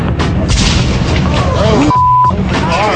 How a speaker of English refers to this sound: Cars exploding in the night in the wake of riots in Oakland, California.